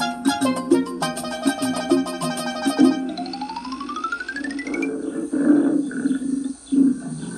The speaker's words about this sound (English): Tiger.